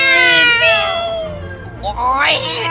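A cat meows twice, close and loud: a long, drawn-out cry that slowly falls in pitch, then after a brief pause a sharper call that rises and falls again.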